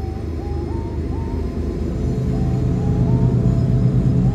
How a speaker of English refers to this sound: And what's that sound, you ask? The train.